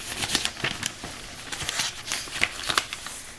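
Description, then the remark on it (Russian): Dry rustling of the pages of a Russian weekly Christian peasant newspaper being handled and turned, a steady run of soft crinkles and papery swishes with a few sharper crackles, no voices. “Немножко газеты.”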